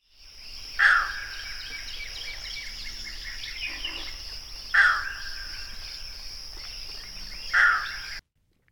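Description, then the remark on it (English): A green heron at Goose Pond gives three loud, harsh squawks spaced a few seconds apart, each short and abrupt, over a steady background chorus of buzzing insects. “Here's the squawking call of the green heron.”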